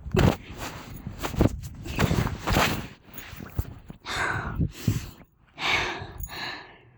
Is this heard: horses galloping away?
no